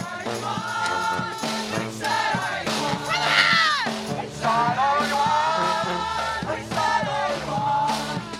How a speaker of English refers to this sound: It was very lively. There was, you know, several hundred people lining the roads with signs that said ICE out, no ICE in Newburgh, lots of cars honking in support. Here's just a clip of a live band with hundreds of people singing and chanting.